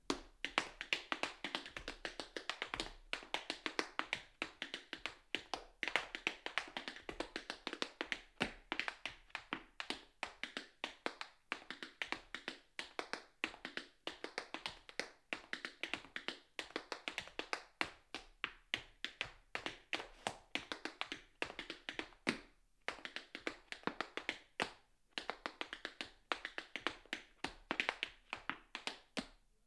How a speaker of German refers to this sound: Willkommen zu einem Kunstradio über Schritt- und Trittgeräusche, zu einem Kunstradio über die Fortbewegung auf zwei Füßen, über getanzte Schritte, über computergenerierte Schrittfolgen und über den Stepptanz.